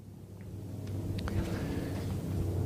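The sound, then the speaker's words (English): A low, steady roar from an airplane flying at an air show rumbles through the whole stretch, swelling slightly louder toward the end. No one speaks over the drone. “I can talk louder than a plane sometimes.”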